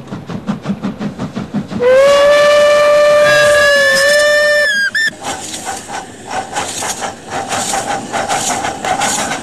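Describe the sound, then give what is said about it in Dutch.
A steam train arriving at a small station on the line between Apeldoorn and Dieren chuffs in rapid rhythmic puffs, then a loud, sustained steam whistle blows for a few seconds before the chugging resumes, fairly loud. “Soms zelfs is het druk op zo'n klein station, als de ene trein er alweer aankomt, terwijl de andere nog niet is vertrokken.”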